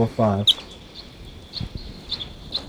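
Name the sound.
wild bird calling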